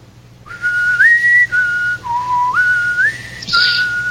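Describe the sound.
A person whistles a short, jaunty Jeopardy waiting tune while waiting for a picture to come up on a screen, clear, the pitch stepping up and down over about four seconds with a faint low hum underneath.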